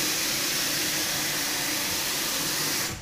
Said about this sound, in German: Gut, jetzt haben wir hier also die Maschine, die Kaffeemaschine. Das ist eine schöne Sache, so eine Kaffeemaschine.